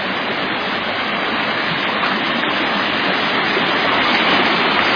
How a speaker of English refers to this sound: We have 630 feet of creek.